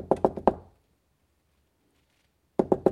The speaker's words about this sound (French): Frappe à la porte, tu connaîtras ton rival.